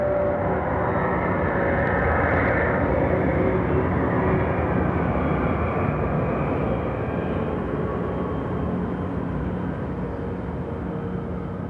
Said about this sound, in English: The first thing I ever heard were church bells. And immediately after that, a plane, and then soon probably just the roar of wind.